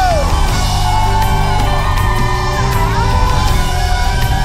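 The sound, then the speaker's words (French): A crowd lets out loud shouts and cries of victory, whooping and yelling without pause over dense, sustained music that fills the whole stretch. “Des cris de victoire en ce lieu!”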